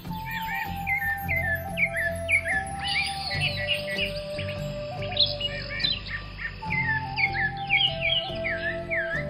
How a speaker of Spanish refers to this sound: Pero una mañana, el señor salió a pasear a la selva. Allí quiso acostarse un rato y se entretuvo horas completas al escuchar el canto de los pájaros.